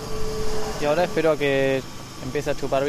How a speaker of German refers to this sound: Ein dicker blauer Plastikschlauch ist mit dem Stiel verbunden und mündet in die brummende Pumpe.